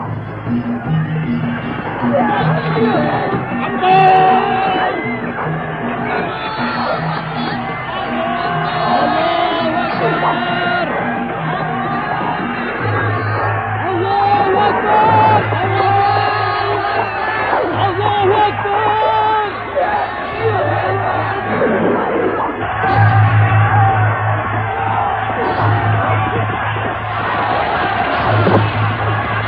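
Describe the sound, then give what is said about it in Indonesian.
A large crowd shouts and yells in a chaotic battle din at dawn, as the Kiri and Surabaya sides fight, many voices bellowing and crying out at once, loud and sustained throughout over a low rumbling drone. “Saat turun fajar meregah, maka pertempuran orang-orang Kiri dan Surabaya tak bisa terhindarkan lagi”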